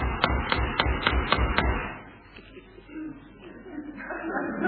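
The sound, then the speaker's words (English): Six loud, evenly spaced knocks on a door rap out in quick succession, then stop, leaving only a faint, low background murmur. “Must be important for him to keep on knocking like that.”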